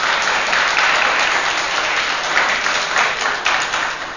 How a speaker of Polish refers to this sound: Nie wiem, czy to mi się przyda, to wasze oklaskiwanie.